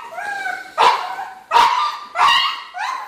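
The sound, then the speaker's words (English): A dog, Willa, whines in her crate in high, drawn-out tones while waiting for a Kong Dispenser to release the next food-filled toy. The whining is broken by four sharp yelping bursts spaced roughly evenly over a few seconds, fairly loud with no one talking. “She just freaked out until the next Kong came and gave her more food. So she just whined for hours.”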